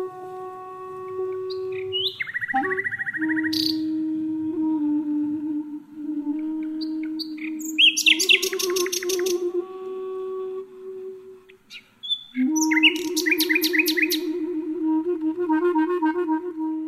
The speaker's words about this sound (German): spielt aus New York live ein Duett mit einer Nachtigall im Gebüsch des Treptower Parks in Berlin. Mensch und Vogel virtuell verbunden.